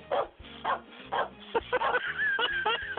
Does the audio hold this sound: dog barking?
yes